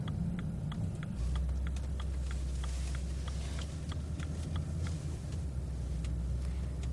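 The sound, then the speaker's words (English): Inside a car, a low engine rumble hums steadily while an indicator ticks in a fast, even rhythm as the car slows to park a few blocks from a mosque. “And here I park my car and take a walk to the mosque.”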